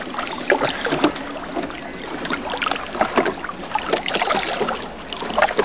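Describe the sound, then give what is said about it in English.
Oars dip and pull through the water of the River Thames in a steady rhythm, with splashes and gentle trickling around a small rowing boat. Two people row it, each pulling one oar, on a clear moonlit night. Moderately loud. “Push off. That's it. You take that oar, I'll take this one.”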